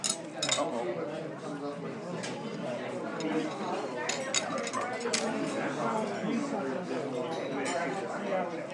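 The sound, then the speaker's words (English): Utensils and dishes clink and rattle in a steady jumble of sharp metallic and ceramic taps, with a background murmur of chatter from many people throughout. “And in due process, I jostled my utensils around.”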